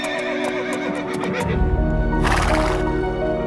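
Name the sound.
horse neighing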